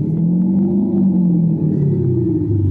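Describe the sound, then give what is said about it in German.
A synthetic electric-car driving sound made by a German tuning firm, a steady, loud, low humming drone with layered tonal bands that slowly shift in pitch, playing continuously with no talking. “Schon deutlich mehr Charakter, der Sound einer deutschen Tuningfirma.”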